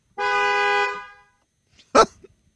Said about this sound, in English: I wasn't expecting the honking. A single car horn.